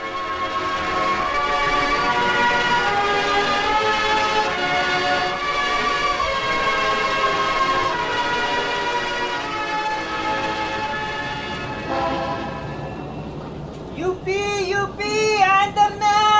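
Busy street traffic in Philco, Philippines, with a dense, steady chorus of blaring vehicle horns held for several seconds, loud, ending in a burst of warbling, wavering horn tones.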